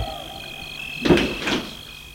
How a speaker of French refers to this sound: Elle entre. Elle ferme la porte.